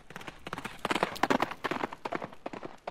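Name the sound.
horse hooves clip-clopping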